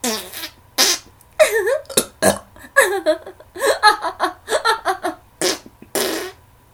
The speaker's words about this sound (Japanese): 香ばしいおならの匂い最高ね。 あなたのネギ臭いゲップもいいわよ。